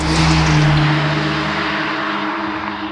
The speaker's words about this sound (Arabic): التكنولوجيا في أبهى صورة، رفاهية على الطريق، متعة القيادة. اكتشف الآن سيارة لينكن الجديدة عند أقرب موزع معتمد.